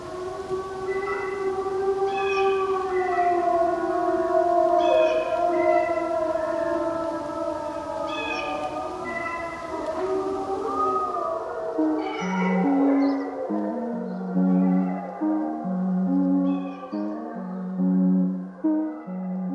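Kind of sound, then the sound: animal, wolf howling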